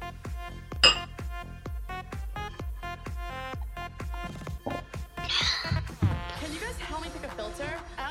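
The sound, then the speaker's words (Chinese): A single sharp, bright clink of glasses knocking together in a toast, ringing briefly above a dense, steady background of voices and tonal sound, with a few rustling clatters later on. “嗯，好嘛，讨厌，来干杯！”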